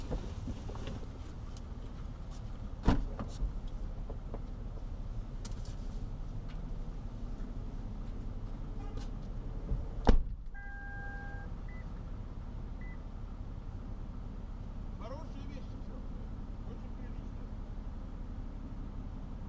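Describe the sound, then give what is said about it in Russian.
A car engine idles with a steady, continuous low rumble, left running while the driver drops old trousers into a clothing donation box, broken by a couple of sharp thuds and a brief electronic beep partway through. “Даже не буду машину выключать.”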